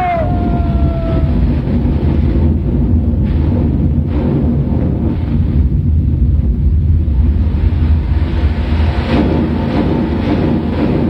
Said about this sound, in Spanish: El volcán estalló y la isla quedó sumergida en el Océano Pacífico.